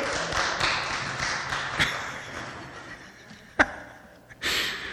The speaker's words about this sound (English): Applause.